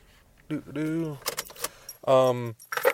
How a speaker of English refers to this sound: Turn my car off, I guess.